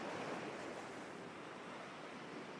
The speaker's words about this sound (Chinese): 它轻拍一下尾巴，就会掀起汹涌的巨浪。